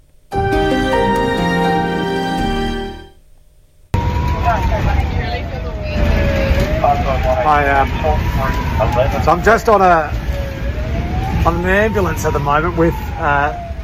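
A brief musical jingle gives way to the rumble of an ambulance on the road, driving to an emergency call in the northern suburbs of Adelaide, its siren wailing up and down and breaking into rapid yelping bursts, loud throughout.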